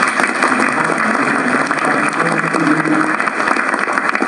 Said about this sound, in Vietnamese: Mình cũng xin các bạn đảm một tràng pháo tay cho.